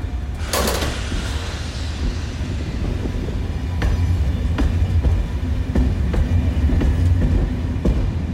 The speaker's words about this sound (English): Well, I managed to get on it, and I found myself on a single carriage train from Brive to Ussel. It's actually pretty nice. It was shiny, it was comfortable, and it clearly was brand new.